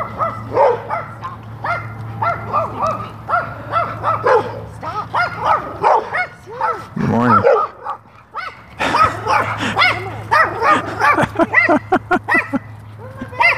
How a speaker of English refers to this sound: The large and the small. It's a little tiny dog. And a large black lab-like dog.